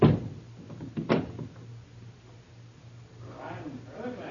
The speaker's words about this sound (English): I lock the door. Quiet now, not a word.